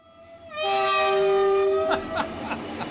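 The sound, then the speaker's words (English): A loud, sustained train horn blares with rich layered tones, followed by rhythmic clacking of a train rolling along the tracks, played as a sound effect called the Trubisky train. “It's the Trubisky train.”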